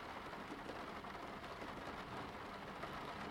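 Steady, dense rain pours down a car windshield, a continuous hiss with soft patters and no pauses.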